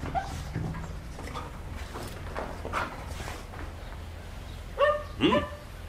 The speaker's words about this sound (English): Bring in the sniffer dogs. Let the dogs check those empty boxes and crates over there.